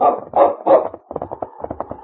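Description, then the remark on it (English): A dog named King barks three times at the waterfront in Whitehall, loud and full, then breaks into a quick run of shorter, softer yapping barks in rapid succession, with no talking. “Quiet, King. Quiet, fella.”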